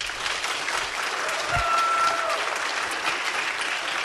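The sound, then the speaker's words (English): An audience claps steadily for several seconds to vote on a quiz item, a dense, even wash of applause at moderate volume, with a brief faint tone and a low thump partway through. “If you think that item number one about transplanting islet cells is the fiction, applaud.”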